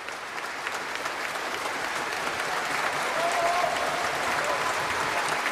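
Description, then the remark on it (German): Long, sustained applause from a large crowd at the Nobel Prize ceremony as the King hands the medal and diploma to the 80-year-old Literature laureate, a dense steady wash of clapping at an even loudness, swelling slightly toward the end, with no voices rising above it. “Als der König ihm Medaille und Diplom überreichte, gab es langanhaltenden Applaus.”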